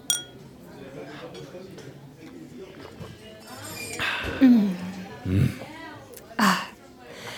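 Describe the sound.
Champagne glasses of Veuve Clicquot clink together in a toast in Paris, a few bright chimes spaced a second or so apart, over a soft murmur of voices.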